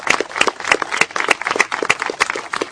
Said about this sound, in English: I want the community to join me in giving a big round of applause to our council person, Sister Desley Brooks, who's here with us.